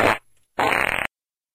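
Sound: fart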